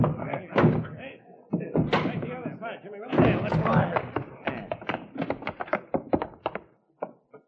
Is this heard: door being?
yes